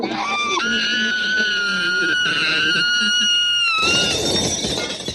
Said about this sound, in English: But yes, he shatters glass on buildings. He shatters champagne glasses. But what's more important is that just sweet, soothing scream is yeah. done over and over again.